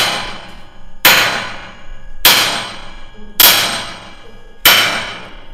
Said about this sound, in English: The bolts and wing nuts that hold the door shut, they have to be tightened by hammering with a sledge. Cover your ears, sir.